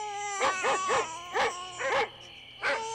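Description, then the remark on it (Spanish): A baby cries at around midnight in short, high, wavering bursts, about six sobs coming in uneven rhythm with brief pauses, fairly loud over a faint steady hum and no talking. “A eso de las 12 de la noche, escucharon al bebé llorando.”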